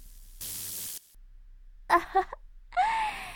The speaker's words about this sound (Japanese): いい泣き声ですよ。少し刺激が強すぎましたか？